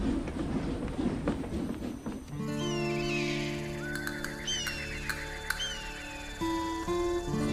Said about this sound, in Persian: همه سوار شن، چیزی نمونده که قطار را بیافته. کسی جا نمونه. چی؟ الان قطار میره؟